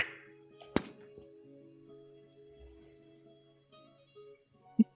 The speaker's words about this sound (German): Ich versuche Würfel zu würfeln, aber ich will nicht.